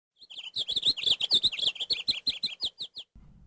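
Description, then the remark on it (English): A bird chirps and tweets in a rapid, lively run of about twenty bright, high notes over a few seconds, clear with no talking. “One day, she took a paintbrush and painted a bird on the wall. The bird flew away.”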